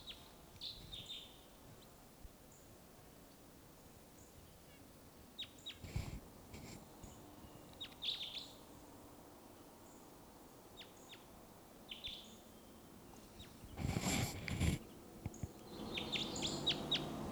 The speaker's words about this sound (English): wild bird here.